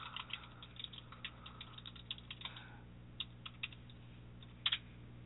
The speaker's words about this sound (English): And more angry typing.